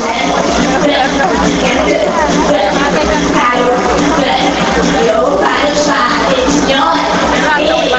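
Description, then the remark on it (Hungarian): A dense, continuous crowd roar of thousands of people gathered before a stage at an outdoor aerobics event on a parade square, many overlapping voices chattering and occasionally yelling, loud and steady throughout. “Többek között francia Viki előadásának köszönhetően ezrek álltak a színpad előtt.”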